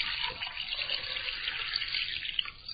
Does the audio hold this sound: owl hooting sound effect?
no